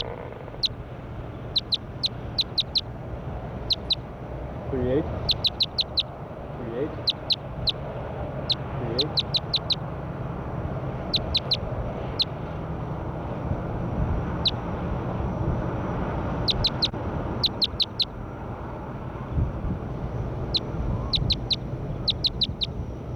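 bird, bird calls

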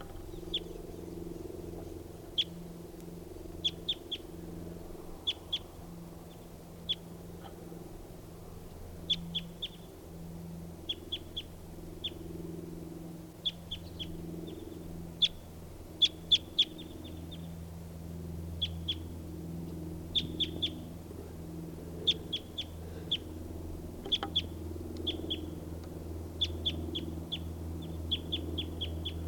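bird, wild bird calling

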